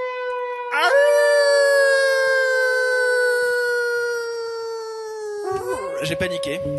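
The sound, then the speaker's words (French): A loud, eerie werewolf howl rises sharply and holds a long, steady note for several seconds, sagging gradually in pitch before breaking off with a short, wavering cry at the end. “Un loup-garou !”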